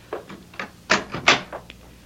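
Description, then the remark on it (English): A door being closed: a few soft clunks and rattles lead into two louder, sharper thuds, then a faint final tap, with no talking. “Yeah, close the door”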